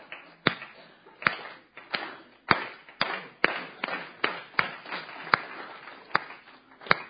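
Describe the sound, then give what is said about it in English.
An audience claps together in unison along with the speaker, a dozen or so sharp, loud claps at a fairly steady pace with a scattered patter of looser hands filling the gaps between beats. “Everyone clap with me real quick.”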